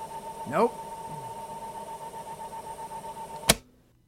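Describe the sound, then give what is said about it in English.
A VHS tape rewinds in a VCR: a steady mechanical whir with a thin motor whine and a brief rising sweep early on, ending in a sharp clunk before silence. “So it's a rewinding VHS tape.”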